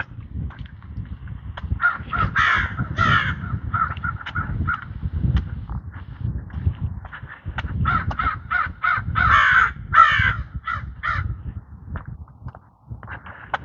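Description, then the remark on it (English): Crows caw repeatedly at 8:03 a.m. on a mostly blue-sky Saturday, July 4, 2026, at 68 degrees in Greeley, Colorado, on the high plains east of the Rocky Mountains: harsh overlapping calls from several birds, some bursts louder, over a steady low outdoor rumble. “Periodic crow outbreaks.”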